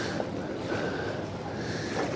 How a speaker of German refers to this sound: Die Wellen schwappen. Ist so schön. Hört ihr das? Die Wellen, das hat die Fellowship verursacht. Sie hat Wellen geschlagen.